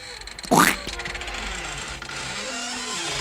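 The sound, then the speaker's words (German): At the opening of a song, a loud creak sweeps sharply upward in pitch for a fraction of a second, then gives way to a steady, grainy droning texture with faint tonal hints underneath. “Da knarzt's.”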